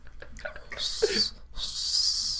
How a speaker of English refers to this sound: The only thing close to a whistle I can do is sort of a tooth whistle, and that's what I'm doing.